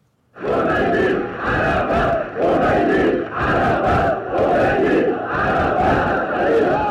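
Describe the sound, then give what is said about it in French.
A large crowd of Iranian people, in an archive recording from 19 February 1979, chants a slogan in unison, apparently 'Roménie Arafat', loud and rhythmic, the same short phrase repeating about once a second with brief dips between shouts, roughly six times in a row. “On entend le peuple iranien crier « Roménie Arafat », si j'entends bien.”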